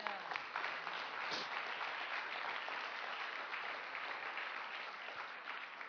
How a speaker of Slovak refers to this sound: Môžeme dať potlesk Pánovi za to. Haleluja.